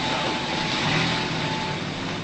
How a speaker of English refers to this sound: They drive away.